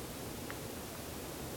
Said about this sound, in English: Oh, I love the sound of the rain. That's cool.